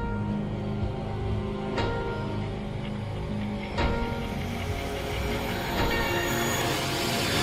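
A commuter train rolls steadily along the rails, its continuous rumble broken by occasional sharp clacks of wheels over track joints every couple of seconds. No one speaks.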